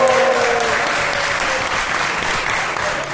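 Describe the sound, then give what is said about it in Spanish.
A crowd applauds steadily for about three seconds at the Jornadicas event in Zaragoza, during a recording of the video game show Game Over, a dense, even wash of clapping hands at consistent loudness with no voices standing out. “Un aplauso, por favor.”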